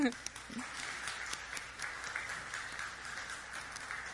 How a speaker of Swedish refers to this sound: Tack så jättemycket. En applåd.